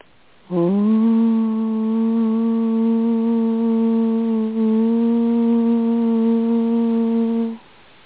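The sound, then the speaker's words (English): A single low, steady meditation tone with rich overtones swells in and is held evenly for about seven seconds, wavering briefly midway before cutting off. No one speaks. “These tones are solidifying the work that we have done and helping your energy field to absorb and assimilate so that you may hold the energy.”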